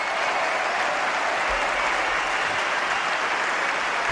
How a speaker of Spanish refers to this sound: La ovación que le dan las 12.500 personas que han llenado en todos sus partidos, salvo el miércoles laborable a las 4 de la tarde.